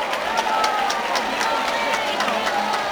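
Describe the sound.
A crowd applauds the arrival of the town's giant figure entering at the head of Carrer Major as people step aside, a dense, steady wash of clapping with sharper individual claps popping out, kept at an even, fairly loud level throughout, with murmuring voices mixed underneath.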